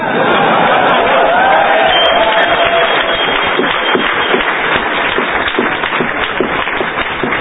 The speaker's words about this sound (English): I see some people not clapping out there. I wonder what those guys do for a living. So that body language is a little weak.